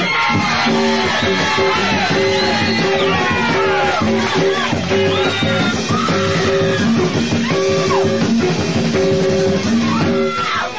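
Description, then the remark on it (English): An audience applauds and cheers loudly for Skillet, Leroy and LaWanda, with scattered whoops and shouts, while a band plays short repeated chords underneath, continuing steadily throughout. “Gentlemen, with a real round of applause, Skillet, Leroy, and the Queen of Comedy, LaWanda.”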